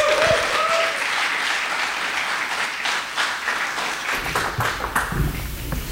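Steady, dense audience applause welcoming Dr. Campbell, a preacher, after his introduction, many hands clapping at once in a loud, even wash that swells slightly toward the end.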